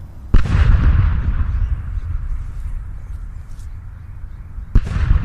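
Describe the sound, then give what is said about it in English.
The Cragmire cannon, fired after a funeral, goes off with a heavy boom heard for miles, followed by a long, deep rumbling decay; a few seconds later a second loud blast hits. No voices are heard. “After the funeral, the Cragmire cannon was fired, and the magnificent boom could be heard for miles.”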